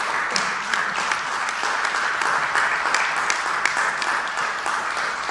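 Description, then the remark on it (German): An audience applauds steadily in thanks to a colleague for 30 years of work with the FST: a dense wash of many hands clapping at an even, fairly loud level for several seconds, with no clear voices over it. “Ich denke, für die Welf kann man dort ruhig auch einen Beifall spenden.”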